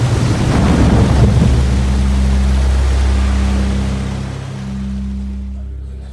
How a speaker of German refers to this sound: Das Boot wurde von einer gewaltigen Flutwelle gehoben und